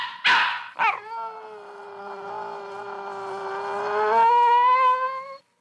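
A dog gives two quick, sharp barks, then breaks into a long, steady howl that swells slightly before cutting off. Fairly loud, with no one talking. Recorded on a portable recorder by Tony Schwartz in New York.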